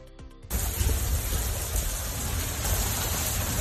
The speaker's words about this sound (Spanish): Esta ha sido la banda sonora de esta mañana de viernes, el de una lluvia que cae de manera intensa desde primera hora.